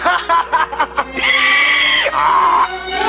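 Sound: donkey braying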